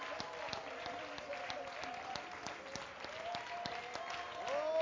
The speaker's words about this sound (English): Oh, hallelujah. Oh, give the Lord a hand clap of praise in this house.